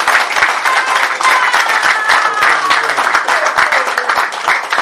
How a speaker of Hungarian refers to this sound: Adjatok egy tapsot az Úrnak, kérlek!